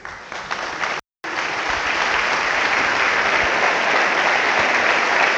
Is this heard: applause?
yes